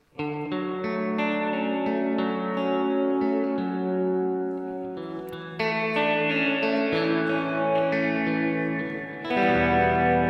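An electric guitar plays sustained, ringing chords and notes through a wide, lush studio plate reverb with no tremolo, letting each note bloom and trail off, loud, with no talking.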